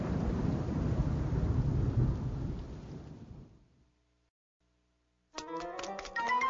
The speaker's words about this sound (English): Dark clouds begin to gather. They get darker and darker. A storm is coming.